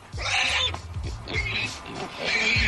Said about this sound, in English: Doesn't sound happy. I feel like the pig should be happier with that news.